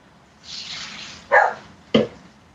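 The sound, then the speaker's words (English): A dog barks at the back twice in quick succession, two short sharp woofs about half a second apart, following a brief soft rushing hiss with no voices. “Uh-oh, the dog's barking at the back.”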